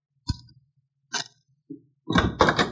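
Single sharp knocks on a wooden hotel room door in Dos Rios, slowly spaced, then a louder, busier cluster of knocking and rattling at the end, with no voices.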